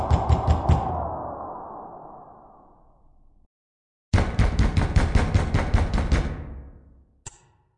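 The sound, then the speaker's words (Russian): Police pound rapidly and heavily on an apartment door in two loud bursts separated by a brief silence, each a flurry of repeated thuds, ending with a single final bang. “ну никого нет дома, не ломай дверь.”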